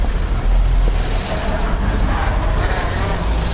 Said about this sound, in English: God, there's enough traffic on here to last a lifetime.